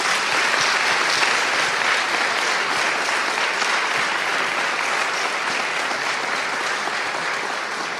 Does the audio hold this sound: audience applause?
yes